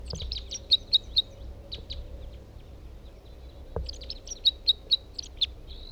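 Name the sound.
bird singing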